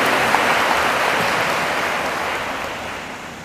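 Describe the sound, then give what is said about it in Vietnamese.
A crowd breaks into sustained applause to honor 12 people who raised their hands, many hands clapping in a dense, even wash that holds steady before easing off slightly toward the end. No voices are heard over it. “Thì cho một tràng vỗ tay thật lớn để tán dương 12 người.”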